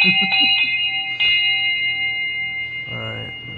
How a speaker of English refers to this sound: Sorry about that. We got our morning wake-up bell.